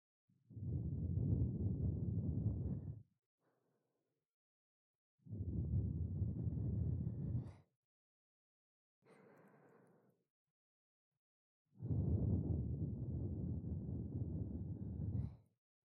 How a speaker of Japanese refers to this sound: 今からお耳様に愛を込めて吐息をかけさせていただきますね。